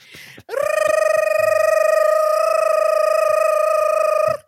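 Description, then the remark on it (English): A loud, steady electronic alarm tone with a buzzy, harmonic-rich pitch rises in quickly and holds for about four seconds before cutting off, preceded by a brief burst of noise. “That is the gibberish alarm.”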